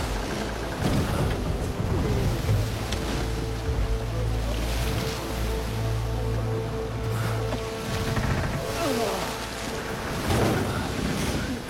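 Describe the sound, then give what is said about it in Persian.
Water sloshes and splashes as it is bailed out of a boat, over a steady rush of wind and waves with a low rumbling undertone throughout. “دست از خالی کردن آب بر نمیداره.”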